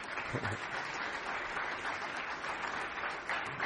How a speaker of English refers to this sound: God bless you. It's nice to have you with us tonight. And you can give him a hand clap.